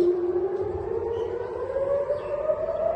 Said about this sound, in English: Palestinian militant group Hamas on Sunday fired a barrage of rockets from Gaza that set off air raid sirens as far as Tel Aviv for the first time in months.